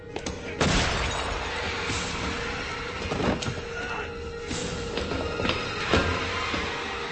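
A few sharp gunshot-like cracks ring out aboard a submarine, spaced a couple of seconds apart, over a constant rumbling, noisy background, the first being the loudest.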